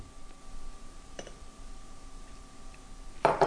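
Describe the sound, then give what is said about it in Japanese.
A few faint, scattered clicks of a spoon against a cup while lightly stirring apple just heated in a microwave, ending in a sharper, louder clink near the close; no one speaks. “さあ、取り出したらここで一度軽く混ぜます。”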